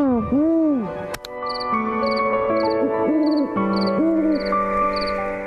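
Eurasian eagle owls in Kikinda, Serbia, calling to one another at night: a run of deep, rounded hoots that swell and fall in pitch, separated by short pauses, with faint high twittering and a couple of sharp clicks behind.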